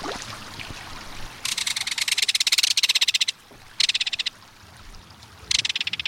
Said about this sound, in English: There's no other sound along a stream or waterway quite like the reverberating metallic call of a belted kingfisher.